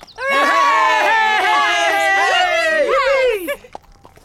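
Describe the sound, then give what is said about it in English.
A crowd of voices cheers and shouts together after reading a notice above a cart full of black hats, loud and sustained for about three seconds, with overlapping high-pitched whoops that rise and fall before breaking off abruptly. “They cheer and shout.”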